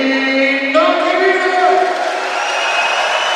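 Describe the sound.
A large arena crowd in the opposite stand of the Rotenbach-Halle cheers and chants in unison in a pre-game contest over which stand is louder, a loud, continuous wall of voices with sustained sung notes that shift pitch partway through and hold steady to the end.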